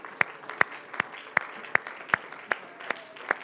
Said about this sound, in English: In Jesus' name, would you put your hands together and give the Lord a hand clap of praise?